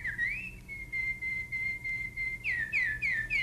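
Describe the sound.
A clear, high whistled imitation of a canary call: a rising slide into a long steady note, then a run of quick repeated upward-sweeping chirps, bright, with no talking over it.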